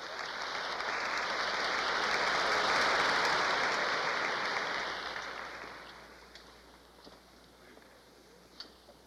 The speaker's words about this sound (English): I know you want to applaud, and I know you mean to express in that applause your grateful appreciation for this matchless talent.